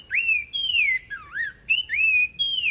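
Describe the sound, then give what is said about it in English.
Song of a sumacrest wren: a run of clear, loud whistled notes that swoop and slide up and down in pitch, repeated in quick phrases with no voices. “Now, here again is the sumacrest wren.”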